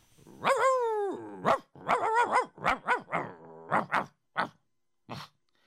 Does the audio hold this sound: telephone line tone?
no